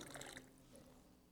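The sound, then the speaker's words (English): Water is poured briefly into a bowl during a Christian blessing of the water, a soft splashing trickle strongest in the first moment and then fading into a quiet hush. No one speaks. “We ask God's blessing on this water.”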